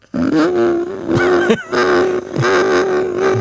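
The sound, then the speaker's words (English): A voice imitates an odd refrigerator noise: a sustained, droning, growly hum held steady for over three seconds, with a brief break in the middle and rough, buzzy overtones. “Our refrigerator makes an odd noise.”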